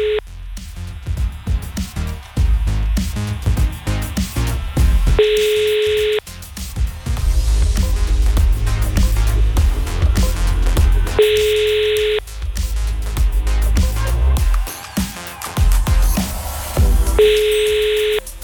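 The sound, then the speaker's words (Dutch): A telephone ringback tone repeats three times, each steady electronic ring about a second long with long gaps between, while music plays loudly underneath; a call to a team's group leader goes unanswered. “We gaan beginnen met bellen met de groepsleider van Team FPRD.”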